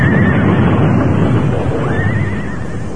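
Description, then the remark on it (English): A horse whinnies in a high, wavering cry as it rears and backs up, then lets out a second shorter whinny, both riding over a loud, rough wash of wind-like rumble and noise. “Oh, that fool horse. The way he reared and backed up.”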